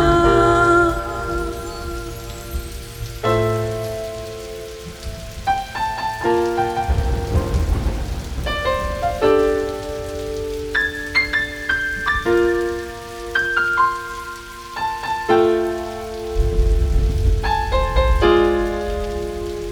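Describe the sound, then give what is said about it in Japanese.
Steady rain patters throughout beneath sustained musical notes, with deep rumbling swells rising twice in the low end like distant thunder. No one speaks. “黙って空を見つめて、雨音が空白を埋める。”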